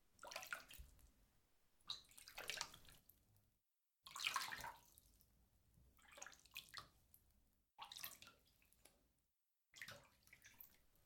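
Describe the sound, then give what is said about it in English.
Water pours and splashes in several uneven bursts, broken by brief silences, as shampoo is rinsed out of hair; a soft, hissing rush with small drips between pours and no talking. “Here, darling, let's rinse this for you. Let's get some water.”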